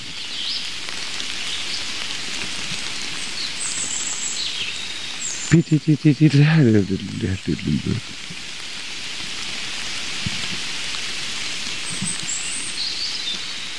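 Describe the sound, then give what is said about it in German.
Steady rain patters onto leaf litter on a forest floor, a continuous soft hiss with scattered drips. Around the middle, a short burst of rapid, pulsing harmonic calls cuts in for a couple of seconds. “Also, Baum des Jahreswald, da klingt Wasser so auf den mit Blättern bedeckten Waldboden, da diese Blätter sich schlecht zersetzen.”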